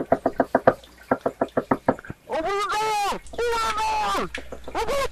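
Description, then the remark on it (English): Loud, rapid knocking on a door, about a dozen raps in two quick bursts, followed by a person speaking in a raised, drawn-out voice. “I believe there's someone at the door.”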